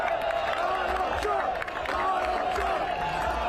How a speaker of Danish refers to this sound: Altså, buråb, USA, USA, kampråb, fuckfinger og en flyvende flaske øl eller vand.